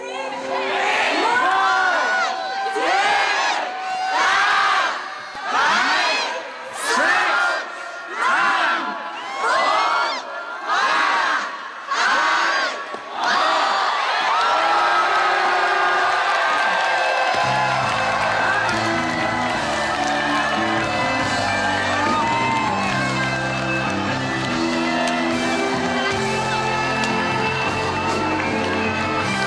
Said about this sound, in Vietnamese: Đúng giây phút đầu năm 2003, 8.888 bông bóng đủ màu, đủ cỡ và nhiều hoa giấy đã được tung bay khắp hội trường, tiếng chúc mừng vang lên khắp nơi.